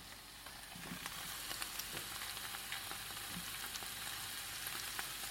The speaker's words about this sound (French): Une fois que les échalotes ont bien caramélisé, on rajoute dans la poêle les côtes qu'on avait pochées et égouttées et les feuilles coupées en gros morceaux ou même carrément entières à feu vif pendant 2-3 minutes.